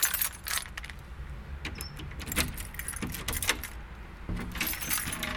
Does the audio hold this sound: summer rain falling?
no